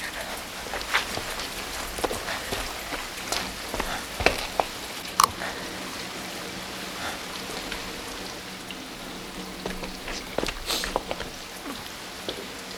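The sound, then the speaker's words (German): Steady rain patters down at the gate of 34 Hillside Drive in a dense, crackling hiss, with scattered louder drops and splashes popping out irregularly. No voices, just the continuous wash of falling rain. “Komm schon, es regnet.”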